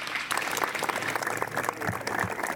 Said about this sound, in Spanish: A continuación, toma la palabra el autor del cartel promocional de esta edición. Un aplauso para recibirle,